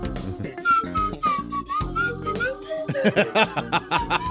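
A slide whistle plays a wavering, gliding melody over a busy rhythmic backing track, its pitch bending up and down before the beat takes over with sharp, punchy hits.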